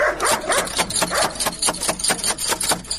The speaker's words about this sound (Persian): اوهو، این چی سگ خطرناک داره که نخوریم ما. الا دروازه رو بسته کن که سگ نخوریم ما.